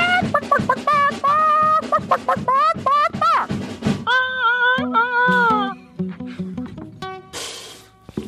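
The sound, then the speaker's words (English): A rooster crows loudly, a run of rapid, strained calls followed by longer drawn-out crows, with a brief burst of noise near the end. “You have a collect call from a rooster.”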